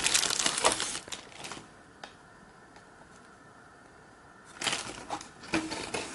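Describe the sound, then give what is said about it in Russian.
A plastic bag holding a digital voice recorder crinkles in two bursts as the recorder is unpacked, rustling and crackling for about a second and a half, then a quiet pause before a second round of crinkling. “В пакете лежит сам диктофон.”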